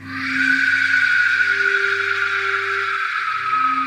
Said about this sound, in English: It said you would know the Aztec warriors were approaching your village when you heard this whistle.